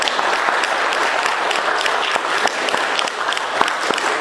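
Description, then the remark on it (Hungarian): An audience claps steadily for the children who performed a greeting, a dense, continuous patter of many hands at even loudness with sharp individual claps popping out, and no voices. “Hadd mondjam, tapsoljuk meg őket, mert olyan ügyesek voltak.”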